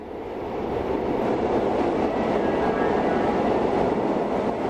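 A Madrid Metro train rumbles along its rails, a steady, loud roar of wheels and motor that swells slightly at the start and then holds constant throughout, with no voices.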